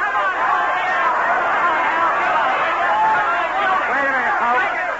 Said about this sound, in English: Then came a night, long after, a nightclub in Hollywood, the crowd yelling.